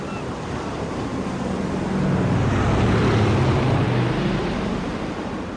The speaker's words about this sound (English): It's beautiful down here. Nothing but the wind, waves, and the occasional PE car clanging by on Electric Avenue.